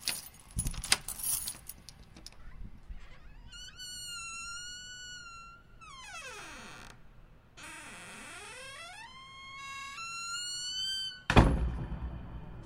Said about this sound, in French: Je me levai brusquement et me dirigeai vers cette fichue porte pour insérer la clé dans la serrure. Et comme par magie, la porte s'ouvrit.